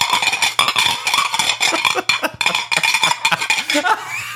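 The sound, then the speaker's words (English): Dishes and cutlery bang and clatter nonstop, a dense run of sharp metallic clinks and knocks, with a low steady hum underneath and no voices. “dogs barking, microwave slamming, dishes banging, microwave beeping, and generally being loud as fuck.”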